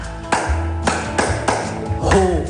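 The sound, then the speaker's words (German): A group on yoga mats claps together to close a laughter exercise, with a "Ho-Ho-Ha-Ha-Ha": around five or six sharp hand claps land at a loose, steady pace over a low background hum, with a brief voiced sound rising near the last clap. “Und dann tun wir das zusammenklatschen so.”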